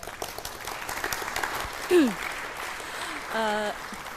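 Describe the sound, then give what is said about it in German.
An audience claps steadily for a few seconds to welcome a speaker giving a talk on interface design, a dense patter of many hands, while a couple of brief voices call out over it. “Begrüßt sie mit einem herzlichen Applaus.”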